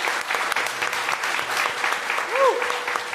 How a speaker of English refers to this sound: And that, ladies and gentlemen, ends our forum. Please give these candidates a round of applause.